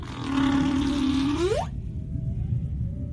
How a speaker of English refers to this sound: Throughout Tonga, you go in anywhere in the water and you can hear whales singing. I know there was whale song all the time, right?